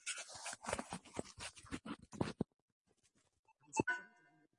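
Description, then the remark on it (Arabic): A close flurry of rapid clicks and taps on keyboard keys for a couple of seconds, then a pause, then a single sharper key press followed by a short electronic tone, as keys such as previous page, Home and End are pressed in a keyboard-description program. “مجرد أنك أنت بس إيش تضغط عليها عشان تعرف إيش هي، افتح الصفحة السابقة، البداية، النهاية، كل أنا قاعد أضغط، أنتم ما أنتم شايفين أي شيء يتحرك في الشاشة.”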